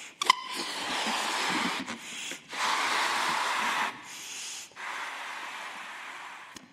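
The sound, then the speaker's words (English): Several long, breathy bursts of air rush in succession, each a broad hiss lasting one to two seconds, as a balloon is blown up and air leaks out through holes in it, separated by brief pauses. “But I'm going to blow it up, put some air into it, maybe we can fill it.”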